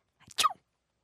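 A single small sneeze of a gnome, imitated by a voice: a short breathy intake followed by a quick, soft 'choo' burst, fairly quiet, with silence afterward.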